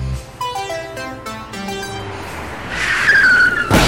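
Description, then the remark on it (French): A short descending musical jingle gives way to a loud, rushing hiss of air as a bus tire goes flat, building for about a second before cutting off abruptly. “Ah, je crois que vous avez crevé, non?”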